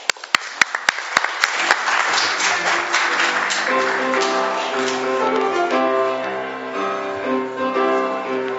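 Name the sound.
applause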